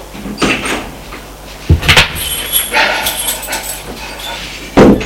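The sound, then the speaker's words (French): An apartment door is opened and then shut as someone leaves the apartment, with a few sharp thumps and clatters and a faint squeak, followed by a final solid bang near the end. “Julien sort de l'appartement.”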